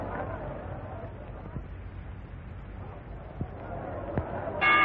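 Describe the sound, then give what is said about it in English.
A low crowd murmur fills a boxing arena, broken by a few dull thumps, then a loud, bright boxing ring bell rings out abruptly at the very end, signaling the start of a round. “You see him toss Morris out of his corner at the bell ring?”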